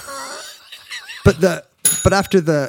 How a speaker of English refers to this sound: I didn't even see the bell. It was behind my laptop screen. That one pleased me. Surprise bell.